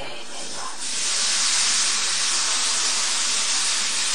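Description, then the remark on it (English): A steady, high hiss of cooking spray from an aerosol can starts after a short quiet moment and holds evenly loud for a few seconds, with no talking. “There's some spray oil, yeah? You can spray it on so it doesn't have to be a lot of oil, but it distributes, it's good enough.”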